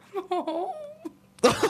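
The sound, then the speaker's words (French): A person mimics a crying baby with a couple of short wailing sobs sliding into a longer whine, then a sudden breathy, noisy burst at the end. “Imite le son d'un bébé qui pleure.”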